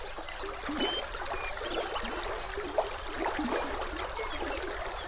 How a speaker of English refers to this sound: Through these grasslands flows the Frenchman River, twisting and looping again and again, sinuously, mile after mile, the epitome of a meandering river. The river's flow creates its own music.